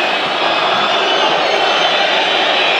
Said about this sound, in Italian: Gudmundsson con tanti fischi dei tifosi del Parma.